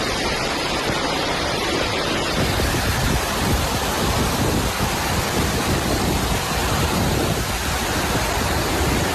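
A loud, steady roar of rushing floodwater from a river that has overflowed near Requena, Spain, reaching almost to the petrol station, a dense continuous wash of churning water with no pauses and no voices.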